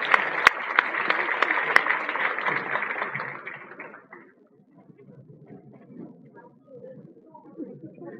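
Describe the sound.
An audience applauds to thank a Buddhist monk, dense steady clapping with a few sharp louder claps, then it fades out after about four seconds into quiet background murmur and low voices.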